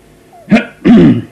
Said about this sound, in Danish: Paul forstander rømmede sig.